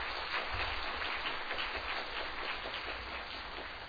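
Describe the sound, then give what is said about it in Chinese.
A church audience applauds steadily for about four seconds to welcome visitors from Jilin Province, a dense, even patter of many hands clapping at once with no voices over it, holding a fairly constant moderate level throughout. “好，没有，我们一起鼓掌，欢迎你们。”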